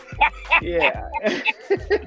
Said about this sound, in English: they're just sitting on a recliner and just letting the dog just bark? I would be extra pissed if I found that out.